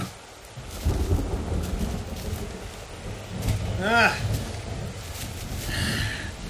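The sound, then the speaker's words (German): Rolling thunder rumbles low and steady through a thunderstorm, swelling in waves over a hiss of rain, with a couple of brief vocal sounds rising above the storm. “Ein Gewitter.”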